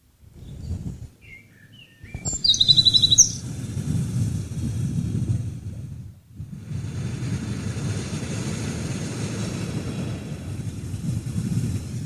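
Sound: male bird singing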